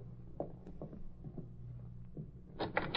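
A door being opened: a few soft knocks and clicks over a low steady hum, then a louder, brief rattling burst as the door gives way at the end.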